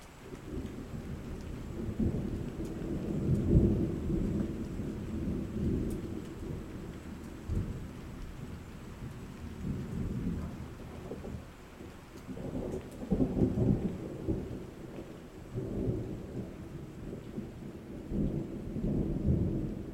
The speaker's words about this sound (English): Storms skim the horizon. My pulse speeds up as electricity builds in the air.